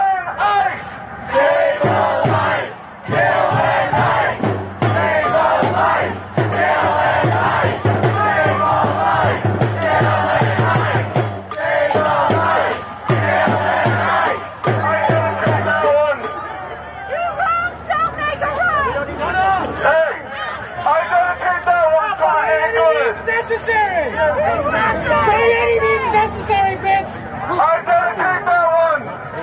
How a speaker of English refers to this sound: That crowd is as big as every ICE enforcement officer they got.